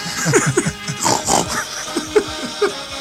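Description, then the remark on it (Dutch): A pig grunts and snorts repeatedly in quick, irregular bursts, fairly loud, with no talking over it, coming from a car with large Radio Hogeveen signs driving through Hogeveen and the surrounding area. “En de paashaas vindt u door middel van een auto die met grote borden Radio Hogeveen door Hogeveen en omgeving knort.”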